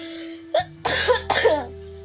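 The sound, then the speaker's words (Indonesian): A short, sharp cough followed by two heavier, rough coughs in quick succession from a person with a cough and cold, fairly loud over a faint steady hum, with no talking. “Sorry banget kalau misalkan nanti gue ada batuk atau bersin atau apa, sorry banget.”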